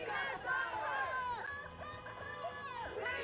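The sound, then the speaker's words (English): A large crowd of several hundred people at an anti-Trump protest in Pensacola fills the scene, many people shouting and calling together in a loud, continuous swell that rises and falls without a break. “Well, anti-Trump protests in Pensacola drew pretty big crowds of several hundred on Saturday.”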